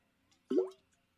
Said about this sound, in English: Excuse me, that was me drinking water and it clunked. If that's a word, clunked.